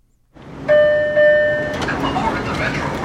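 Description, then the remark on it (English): Train station ambience at Union Station in Los Angeles during the morning rush, with a steady rumble, a loud tonal horn blaring for about a second near the start, and indistinct voices of commuters murmuring in the background by the escalator down to the Red Line train. “The morning rush may have slowed to a trickle, but two police officers are still surveying the commuters on the escalator down to the Red Line train.”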